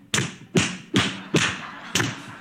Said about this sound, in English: You know, the sound of one hand clapping really doesn't make sense. It's not possible, right? Except in a comedical sense where you're smacking yourself somewhere on your body